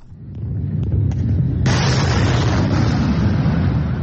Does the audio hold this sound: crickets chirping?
no